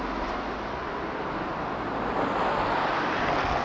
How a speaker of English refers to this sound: It's too noisy, all these cars, isn't it?